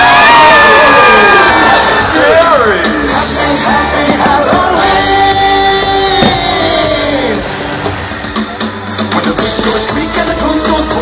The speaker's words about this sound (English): Everybody scream! Everybody's scream!